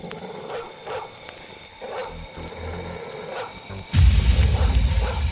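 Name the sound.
dogs barking and yipping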